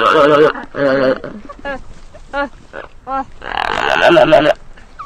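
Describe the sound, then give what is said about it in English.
A human voice imitates gelada monkey calls: a quick run of throaty grunts, warbling moans and short nasal yelps, rising and falling in pitch, loud and with no other talk. “Or as you would say in gelada.”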